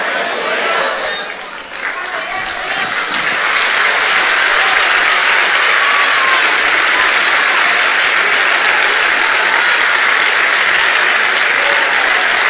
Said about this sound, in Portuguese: Se deixar, aplaude a noite toda, meus irmãos.